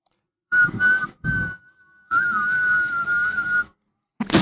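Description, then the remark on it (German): A person whistles into the microphone in short bursts, then holds a long wavering tone, with breathy air noise beneath; a second faint pitch sounds alongside the main one as the person whistles in two voices at once. “Ich wäre ausgegangen und ich kann das jetzt, der Mikrofon, ich kann ja zweistimmig pfeifen.”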